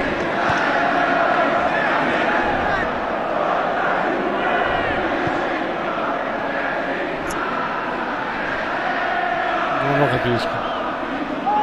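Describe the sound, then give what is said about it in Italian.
A dense, continuous roar of many voices fills the whole stretch, with rising and falling chant-like tones over a steady crowd din, loud throughout with no pauses, as football fans chant in the stadium during a Juventus versus Verona match. “Infatti, se basta, chiedo scusa, possiamo sentire un attimo il coro?”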